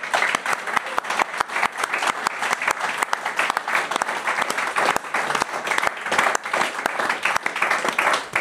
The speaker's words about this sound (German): Dicken Applaus.